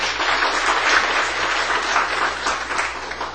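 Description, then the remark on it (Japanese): An audience at a church baptism service claps steadily to welcome four people being baptized, a dense, continuous wash of applause that holds at an even, fairly loud level for a few seconds with no voices over it. “4名の方を、皆さんご紹介したいと思いますので、拍手を持ってお迎えしたいと思います。”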